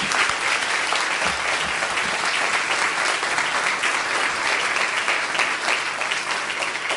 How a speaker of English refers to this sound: They did a good job, didn't they? Let's give them another hand clap.